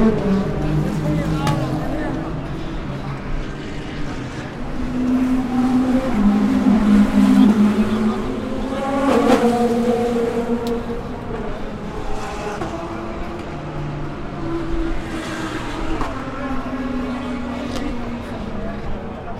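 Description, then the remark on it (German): Several GTP, LMP2 and GT3 race cars roar past one after another through and toward the banking, recorded from an infield passage, engines rising and falling in pitch as they speed by, with a steady loud motor drone throughout and no talking. “So also röhren die Autos der GTP, der LMP2 und der GT3 durchs Banking und zum Banking hin.”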